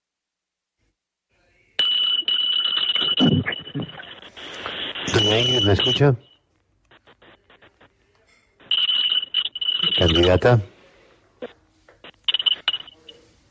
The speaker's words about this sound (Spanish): Pues yo creo que es el despertador. ¿Que se le metió el despertador con las campanitas del grande